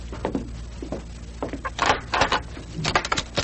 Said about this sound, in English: So we'll not be seen when the door opens.